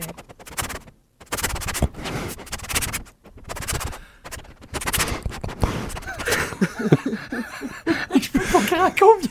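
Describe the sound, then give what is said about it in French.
A person imitates a dog sniffing under a door crack to get in, with quick, breathy snuffling bursts separated by short pauses, and laughter joins in over the last few seconds. “mettons, tu sais, dans le dessous de ta porte, des fois tu dors là, puis il renifle en dessous de ta porte dans la craque là pour rentrer.”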